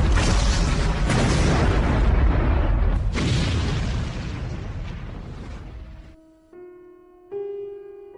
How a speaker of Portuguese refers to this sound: No meio dos ecos da explosão, 1900 mergulhou no mar, na companhia do seu único lar, o Cruz Virginia.